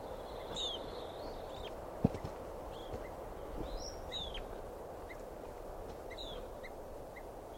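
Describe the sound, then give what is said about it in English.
Sharp bird alarm calls ring out several times at irregular intervals, fairly faint, over a steady rush of outdoor background noise with a single brief knock. “I think the alarm calls now.”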